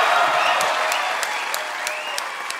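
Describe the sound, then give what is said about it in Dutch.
Loud, dense audience applause for the evening's winner, a police officer, fills the whole stretch, many hands clapping at once in a steady wash with a few sharper claps rising out at intervals. “Dat was met veel klappen. Dat was met veel applausen al.”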